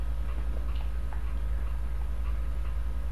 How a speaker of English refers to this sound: Yeah. That clock up on the mantle.